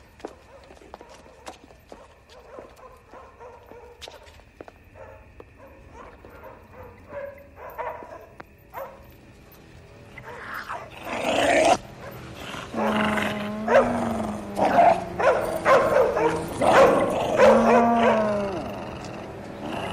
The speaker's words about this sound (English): Hell, the dogs are out.